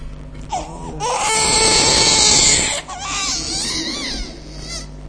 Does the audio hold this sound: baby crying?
yes